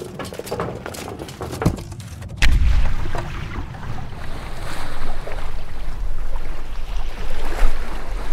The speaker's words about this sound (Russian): Царь тотчас велел прикатить большую бочку с железными обручами. В нее посадили Емелю и Марью-царевну. Засмолили и бочку в море бросили.